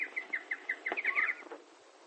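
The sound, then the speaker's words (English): Small birds chirping: a quick, even run of short, high tweets followed by a brief warbling flourish, clear, with no voices. “He took each of the seven little birds, and he tore out each of the seven little tongues.”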